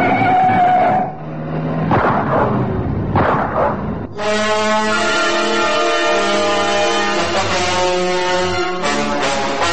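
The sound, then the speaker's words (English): A red Fleet Wing car engine roars loudly at speed in the Northern Suburbs at 7:53 a.m., starting with rough, rumbling bursts before settling into a sustained, high-pitched howl that stays prominent to the end, with no voices. “The red fleet wing roars into view.”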